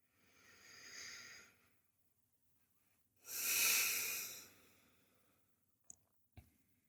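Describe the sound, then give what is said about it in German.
Slow, deliberate breathing during a guided breathing exercise, breathing consciously into the belly: a soft inhale, a pause, then a longer, louder breathy exhale, followed by two brief faint clicks near the end. No one speaks. “Auch hier lade ich dich ein, 5 ganz bewusste Atemzüge zu machen.”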